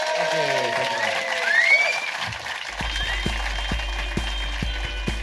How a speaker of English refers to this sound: Ladies and gentlemen, give a massive round of applause to the amazing Rhys James.